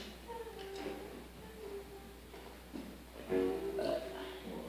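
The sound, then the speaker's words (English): A few low, croaky burps sound close to the microphone, with a louder, drawn-out belch near the end and softer throaty rumbles before it. “Sorry, I keep burping into the mic.”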